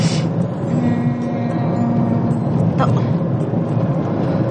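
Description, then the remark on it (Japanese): A steady, loud low rumble of a car driving, heard from inside the vehicle, with a constant engine drone and road noise filling the whole stretch, as it drives on to stop at a postbox to post an envelope. “ちょっとポストによって封筒を入れてからまた車出発させます。”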